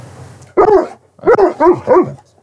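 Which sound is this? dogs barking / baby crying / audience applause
dogs barking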